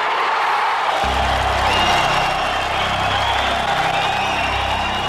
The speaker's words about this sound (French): Des cris de joie, des rires, des pleurs, c'est la libération.